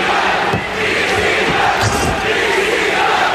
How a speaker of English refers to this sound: at some point in the show, maybe several, there is a very vocal ECW chant.